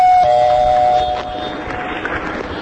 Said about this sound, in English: Now, where's that doorbell?